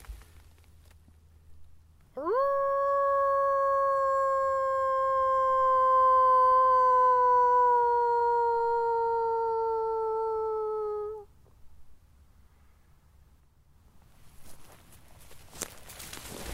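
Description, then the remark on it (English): A person in a forest in Germany imitates a wolf howl, trying to get a wolf to howl back: one long, sustained, clear tone lasting about nine seconds, slowly gliding down in pitch. Quiet outdoor ambience and faint rustling follow. “Screw it. I gotta try one more wolf howl.”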